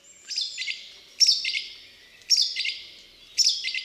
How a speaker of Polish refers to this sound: Piosenka śpiewaka podobna jest do głosu kosa. Różni się jednak kilkakrotnym powtarzaniem tego samego motywu.